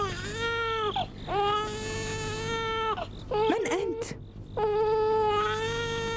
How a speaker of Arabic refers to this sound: ولماذا يبكي بهذا الشكل؟ إن أمه ميتة وهو يبكي من شدة الجوع. إنه جائع.